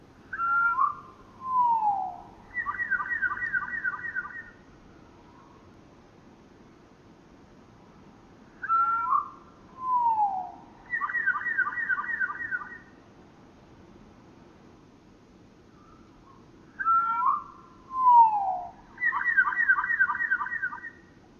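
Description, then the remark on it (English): A rufous towhee song slowed to one-third speed repeats three times, each phrase a couple of drawn-out, sweeping whistles followed by a long buzzy trill, with quiet pauses and a low background rumble between. “That's him. Rufus Towey, 1/3 speed.”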